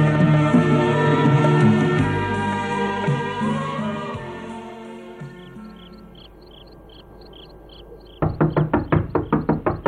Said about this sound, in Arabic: من ذا الذي يطرق الباب في أول هذا الليل؟